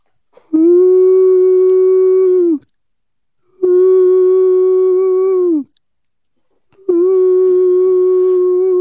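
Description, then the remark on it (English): A person imitates an owl with three long, steady hoots, each held about two seconds at a mid pitch, separated by short silent pauses. The calls are loud and unaccompanied. “I practice my owl noises.”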